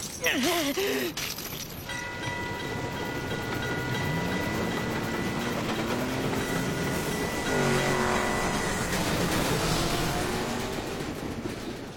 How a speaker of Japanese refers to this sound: 列車を止めろ。 この列車は弾丸だ。走り出したら止められねえ。 ダメだ、ブレーキが効かない。